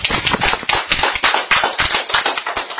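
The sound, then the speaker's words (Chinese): A crowd applauds steadily, many hands clapping at once in a dense, continuous patter that stays fairly loud and even for the whole stretch, with no voices over it. The applause is a warm welcome for a speaker. “无咱以热烈掌声来欢迎”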